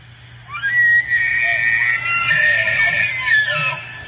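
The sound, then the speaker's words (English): A bull elk bugles during the September rut: a high, whistling squeal that rises and wavers for several seconds, loud and shrill, over a steady low hum, with no talking. “That is the bugle of a bull elk.”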